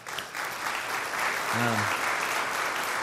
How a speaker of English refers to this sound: And out of curiosity, how many of you here in the audience, in the church have served in the military, Air Force, Navy? Amen. Amen. Why don't we give a round of applause?